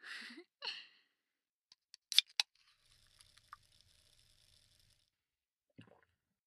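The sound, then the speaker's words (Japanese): A couple of breathy puffs, then a few sharp cracks like a cap being opened, followed by a soft, steady fizzing hiss of a newly released, strongly carbonated drink with tiny pops, ending in a faint click. “これ新作の炭酸。いい音するでしょ。なんか炭酸が強いやつらしいよ。”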